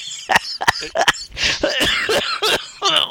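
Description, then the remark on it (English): A person coughs repeatedly in short, sharp bursts mixed with raspy throat clearing, fairly loud, in an irregular rhythm over a few seconds. “This is tickling my coughs.”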